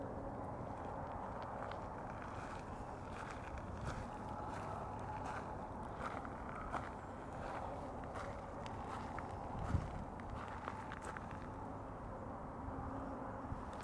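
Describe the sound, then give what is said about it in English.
Steady footsteps on a dry, not muddy dirt path, soft scuffing crunches at an even walking pace, set against a constant low rumble of background noise with no voices. “The path is not muddy, which is nice. It's good to hear the sound of that under my feet instead of the sound of crunching snow, though that's a nice sound too.”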